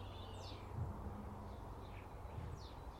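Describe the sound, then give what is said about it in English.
Soft, high chirps and short descending whistles of tropical birds in the morning come and go over a steady low rumble, with a few calls spaced across the stretch and no voices. “So, I'll just leave you with the birds then.”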